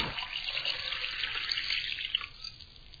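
Water gushes steadily from an open hose, a continuous hiss and splash that holds at an even level for the whole stretch, with no voices.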